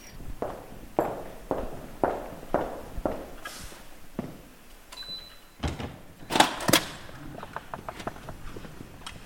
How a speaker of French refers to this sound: Alors, le volume des salles, à chaque fois qu'une porte s'ouvre, c'est toujours très impressionnant. Là, on a une hauteur de plafond énorme avec ces immenses baies vitrées.